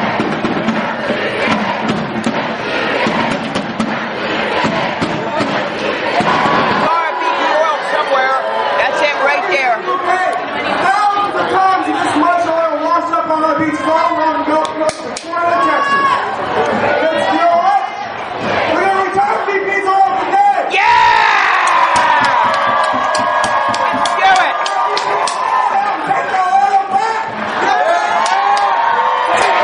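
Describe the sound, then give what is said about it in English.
A large protest march crowd, marching from the Chamber of Commerce to BP's Washington, D.C. headquarters, yells and cheers in a continuous, loud roar of overlapping voices, with whoops and shouts rising out of the dense chatter throughout. “Here it is, the main Powership crew rolling in on BP.”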